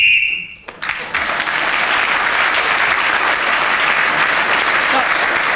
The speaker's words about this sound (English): You didn't fall in quick enough to challenge him, so he was speaking when the whistle went.